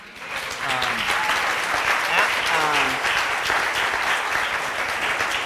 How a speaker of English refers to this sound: By the way, nobody's really talked about this, but we need to be giving a big round of applause to the kids program this week.